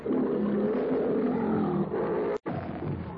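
A lion roars loudly and continuously, a deep rumbling growl sustained for a few seconds, cutting off abruptly before a final grumbling snarl.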